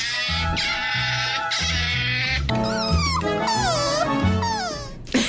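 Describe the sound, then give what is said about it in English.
An otter calls loudly: steady, harsh bray-like tones at first, then high, wavering squeals and whines that swoop up and down in pitch, with no one talking. “That was like a mixture of a donkey and then a dog crying after. It was an otter.”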